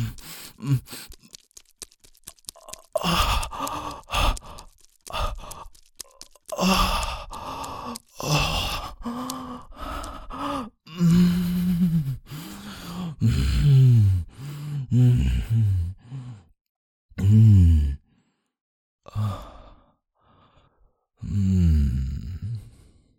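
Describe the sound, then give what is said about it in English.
Heavy, labored breathing with gasps, sighs and voiced groans coming in uneven bursts, fairly loud, separated by short pauses. “You are breathing so heavy.”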